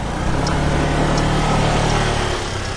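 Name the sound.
moped engine running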